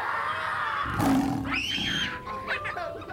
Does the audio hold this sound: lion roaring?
yes